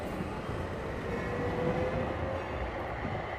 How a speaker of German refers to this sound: Die Straßenbahnen fahren im Minutentakt an ihm vorbei.